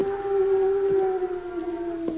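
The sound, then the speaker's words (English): A person imitates a hoot owl's call: one long, steady, wavering hoot held at a low, even pitch, sounding alone with no talk. “That's a phony owl if I ever heard one.”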